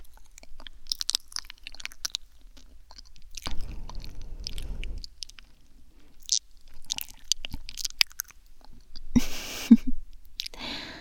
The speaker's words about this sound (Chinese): 妈妈呀，是看你嚼得很辛苦，用舌头帮你助推一下，这样应该就没问题了吧？